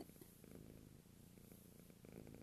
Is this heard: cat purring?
yes